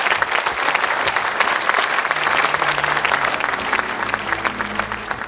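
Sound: audience applause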